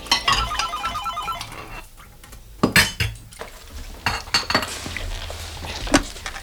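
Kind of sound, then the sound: household object, washing dishes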